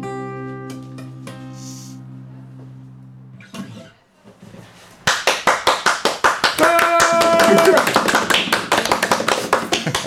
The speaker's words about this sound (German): Mal wieder eine Band, die für sich selber klatscht.